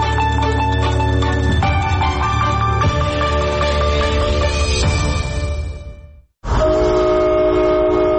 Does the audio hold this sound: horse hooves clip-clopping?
no